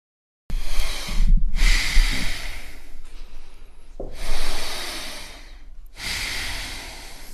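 Several forceful, noisy snorts and heavy breaths, coming in long rasping bursts separated by brief pauses. No one speaks.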